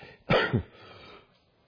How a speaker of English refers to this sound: I'm trying to figure out how to cough not to make too much noise here.